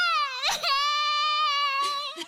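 A person cries in a high, wavering, sustained wail, broken by a couple of shaky sobbing breaths, close and fairly loud with no other sounds around it.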